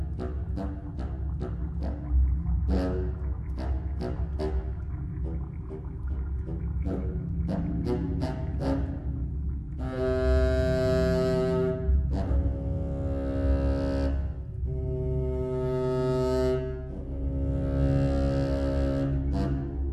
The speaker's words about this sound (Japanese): あ、ちょっとそのコントラファゴット、コントラバスーンの音色を聞いてみましょう。